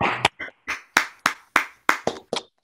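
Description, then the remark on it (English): A short burst of applause for a speaker's talk, from participants unmuting in an online meeting, heard as a string of distinct, evenly spaced hand claps, about nine, clear, with no talking over them. “So let's all unmute to give her a round of applause for her great talk.”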